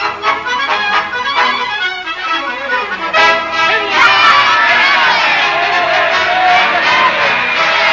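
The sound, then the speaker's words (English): A large crowd at a political rally yells and cheers loudly, a dense roar of many voices that swells and surges continuously, with shouts rising above the din. “What are they yelling about, Mr. Clancy? Haven't you ever been to a political rally before? They'll yell at anything.”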